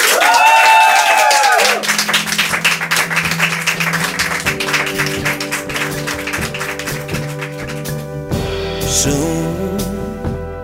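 An audience applauds loudly and steadily, a dense patter of many clapping hands, while music with sustained tones starts up underneath and continues as the clapping carries on.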